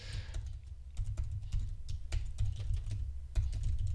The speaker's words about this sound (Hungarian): Ezért jó, ha valaki gyorsan gépel.